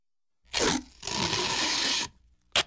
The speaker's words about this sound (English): Tape.